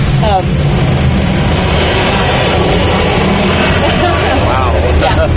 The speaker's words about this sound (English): You always have to contend with airplane noise around here. It's kind of a hazard of the trade.